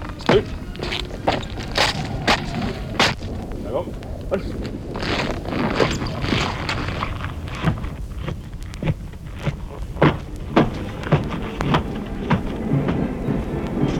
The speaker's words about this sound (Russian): Вот шагает караул к мавзолею Ленина.